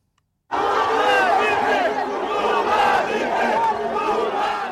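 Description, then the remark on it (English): Outside a prison in Brazil, a large crowd of supporters of former Brazilian President Luiz Inácio Lula da Silva cheers and shouts loudly and continuously as he is walked out of jail. Many overlapping voices rise in a dense roar that begins abruptly after a brief silence. “The sound of supporters of former Brazilian President Luiz Inácio Lula da Silva cheering as he was walked out of jail.”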